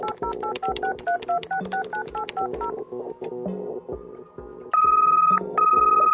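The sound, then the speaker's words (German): A quick run of telephone keypad dialing beeps, clear, followed by lower tones and then two longer steady electronic tones at the end, with no voices, as a telephone call between Berlin and Moscow is placed. “Und im Jahr 2010 könnte dann zwischen Berlin und Moskau das folgende Telefonat geführt werden.”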